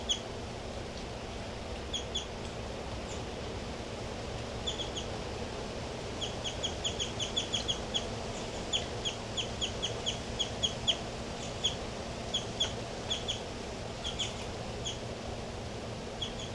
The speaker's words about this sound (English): Okay, this is bird 06.